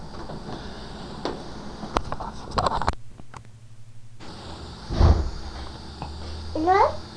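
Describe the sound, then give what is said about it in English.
A cat gives a brief meow near the end, rising and falling in pitch, over noisy surroundings with a child's babbling and some bumps and shuffles earlier. “It's a cat.”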